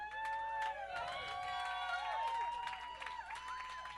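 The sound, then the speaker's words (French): An audience claps and cheers, with scattered hand claps mixed with whoops and rising whistle-like shouts, holding a steady moderate level for the whole four seconds. “C'est ça que vous appelez des applaudissements?”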